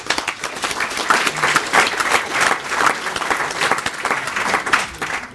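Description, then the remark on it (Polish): An audience breaks into sustained applause for PGA, a video game event, many hands clapping in a dense, steady wash of sharp claps that holds a fairly even loudness for several seconds without any talking over it. “Więc brawa dla PGA.”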